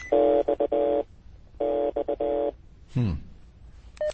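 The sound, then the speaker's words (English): Two quick runs of touch-tone keypad beeps, each a cluster of rapid presses lasting about a second and separated by a short pause, followed by a brief swooping sound and a final short tone, played back as message number 2 on Fox Mulder's answering machine. “Or somebody trying to enter a PIN or something.”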